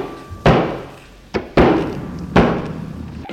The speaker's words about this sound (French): Défonce la porte.